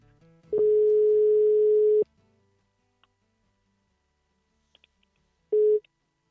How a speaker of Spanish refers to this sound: Así que vamos a llamarle a ver si nos coge el teléfono.